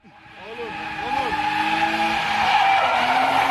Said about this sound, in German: Im Internet findet man leicht Videos wie dieses. Ein Autorennen mit quietschenden Reifen, Zuschauer filmen und amüsieren sich köstlich.